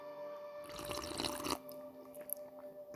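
Rooibos and chamomile tea is poured into a cup in a short splashing stream lasting about a second, then a few faint drips, with soft tonal music playing steadily underneath.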